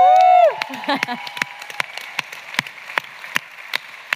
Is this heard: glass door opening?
no